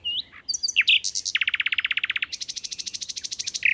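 A nightingale, a small brown bird, sings with no one talking: a few varied whistled notes, then two fast, rhythmic trills of rapidly repeated notes, the second pitched higher and bright.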